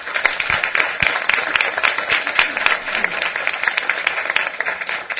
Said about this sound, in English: And I should note that they really deserve a big round of applause for their extraordinary work this past 3 years.